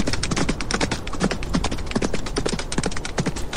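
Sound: horse hooves clip-clopping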